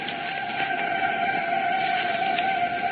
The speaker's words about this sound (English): Can you hear those whistles? Can you hear those bells? Cincinnati is celebrating. We thought we'd let you hear what the old hometown is doing. Just listen to the noise.